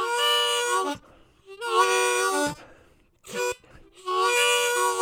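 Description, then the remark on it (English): A locomotive horn sounds the crossing pattern as a train hammers down the rails late at night in River Park, a block from a home: two long blasts, a short one, then another long blast, each a loud, steady, multi-tone chord with brief quiet gaps between. “Some neighbors are bothered by the locomotive horns blowing for the crossings, but I love them, even when they wake me in the night.”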